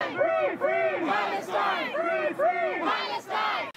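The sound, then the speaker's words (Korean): A large crowd at an anti-war street protest in Europe calling for a ceasefire in the Israel–Hamas war chants in unison, a loud rhythmic slogan repeated in steady two-beat bursts about every half second, voices blending into a continuous roar of shouting. “런던과 파리, 브뤼셀 등 유럽 각지에서 수십만 명에 이르는 사람들이 전쟁에 반대하는 시위를 벌였습니다.”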